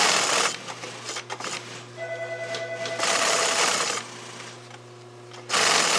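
An industrial sewing machine stitching several layers of seams on a Brailler fish bag at the Nomar manufacturing plant runs in loud, rattling bursts of rapid stitching, separated by quieter stretches where a steady motor hum carries on underneath. No one speaks.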